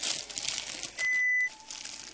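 Rustling crinkles of a piece of paper being drawn out of a bag, broken midway by a steady, fairly loud electronic beep lasting about half a second, then softer crinkling resumes. No one speaks.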